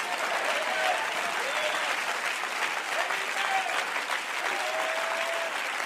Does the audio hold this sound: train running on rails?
no